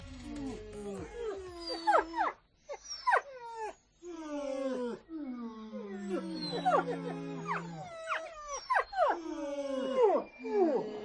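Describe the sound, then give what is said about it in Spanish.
Several dogs howl together in overlapping, wavering tones, with sliding pitches, short yips and whimpers mixed in, fairly loud throughout. “Y no es que tengamos aquí una manada, sino que este sonido es muy especial.”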